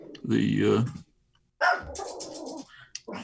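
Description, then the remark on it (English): A dog barks: one drawn-out, harmonic bark, a brief pause, then a longer stretch of rougher barking and vocalizing that ends in short bursts. “Is that how they responded, by barking?”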